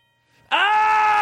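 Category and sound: household object, doorbell ringing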